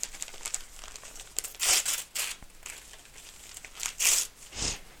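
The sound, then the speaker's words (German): Wrapping paper with white flowers on it crinkles and rips as it's pulled off a present, with several louder tearing bursts amid continuous rustling and no voices. “So, ja, also Papier mal ab.”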